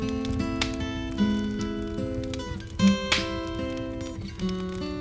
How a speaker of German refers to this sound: Makel: Es ist verdammt kalt in diesem Winter 1970-71. Die Heizung des 1792 erbauten malerischen Landhauses ist ein Totalausfall. Aber immerhin, der Kamin knistert und prasselt gemütlich.